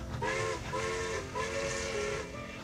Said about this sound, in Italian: e finalmente il mio treno arrivò.